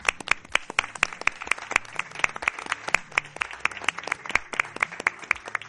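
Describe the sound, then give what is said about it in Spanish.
Applause for an audience that donated food to a food bank, at a mystery programme of Onda Madrid: a steady run of sharp, crisp hand claps that keeps going at an even, fairly quick pace for several seconds. No voices are heard. “Así que este aplauso mío es para vosotros.”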